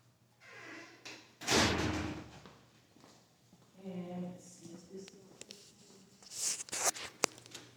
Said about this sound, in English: Now, let me pull this door up.